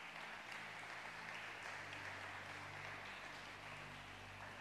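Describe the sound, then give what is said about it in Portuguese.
An audience claps steadily in a dense, sustained wash of applause lasting several seconds, with a faint low hum running underneath. “Você pode dar uma linda salva de palmas?”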